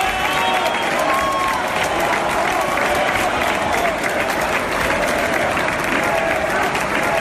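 A large audience claps steadily and loudly, with shouts of "fuera, fuera" and scattered whistles woven through the dense, continuous applause from start to finish, as La Fura dels Baus collaborators wearing yellow ribbons come on stage.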